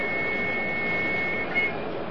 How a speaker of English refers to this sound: I can hear just the faint whisper of an aircraft high overhead.